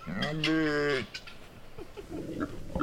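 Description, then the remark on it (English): Farm animals on a 60-acre farm down gravel roads near Tahlequah, where sheep, ducks, llamas, hogs and cattle mingle: one loud, drawn-out bleat lasting about a second, followed by a quieter farmyard background of soft rustling and faint, scattered animal noises. “Sheep, ducks, llamas, hogs, and cattle mingle on Colleen Thornton's 60-acre farm”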